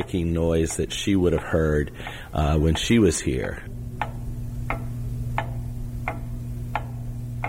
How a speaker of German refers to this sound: Die Uhr, die im Hintergrund tickt, es ist dasselbe Ticken der Uhr, das sie hörte.